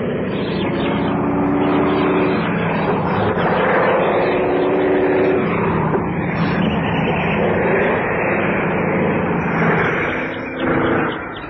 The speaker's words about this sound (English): Small plane, too. Four-seater.